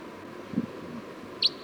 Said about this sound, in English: Bird 305. Sounds like there was a wild crossbill down the hill.